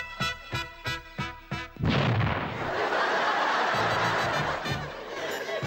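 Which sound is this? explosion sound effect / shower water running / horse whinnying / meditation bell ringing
explosion sound effect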